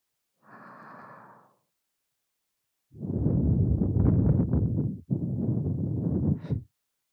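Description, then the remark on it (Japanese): A soft, hot breathy exhale blown right at the listener's ear, then a longer, louder breath blown in two strong pushes, airy and intimate with no talking. “熱い吐息を耳元に吹きかけるたび、背筋がビクンビクンってなってます。”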